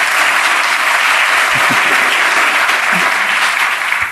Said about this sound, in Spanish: Muchas gracias, un aplauso al equipo técnico de sonido.